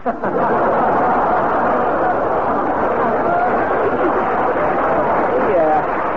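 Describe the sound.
An audience claps steadily and loudly for about six seconds, a dense unbroken wash of applause with faint voices and chatter mixed in.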